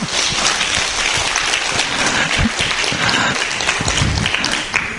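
A crowd breaks into loud, sustained applause for the Buddhist teacher Thầy Quảng Đạo, many hands clapping densely and steadily for the whole stretch, with no voices standing out.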